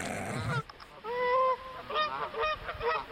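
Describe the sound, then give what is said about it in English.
A flock of geese flying over Disneyland in Anaheim, California, heading south for the winter, honks repeatedly, several overlapping nasal calls rising and falling in quick succession, fairly loud, with no talking. “Flock of geese poops on Disneyland party.”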